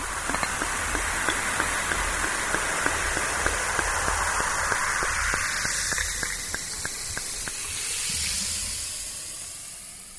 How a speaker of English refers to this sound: Or the sound that the bubbles make in a fizzy drink?